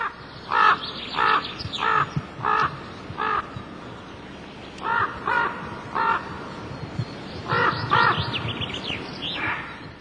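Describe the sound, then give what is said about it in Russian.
A common raven calls repeatedly in a series of harsh, hoarse croaks, grouped in short bursts with brief pauses between, clear over a low background hum, at Mikhailovskoye, where it nests near a heron colony by the Mikhailovsky pond. “У ворона, как это приличествует для птицы с репутацией долгожителя, здесь родовое поместье.”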